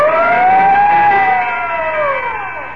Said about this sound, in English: Whenever you hear the siren and bell, think of Texaco Fire Chief Gasoline.